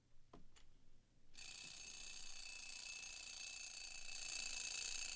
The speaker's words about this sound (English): Don't you hear that alarm clock? Get on out of that bed and wash your simple head. Can't you hear that alarm clock? I said, get out of that bed and get prepared to go to work.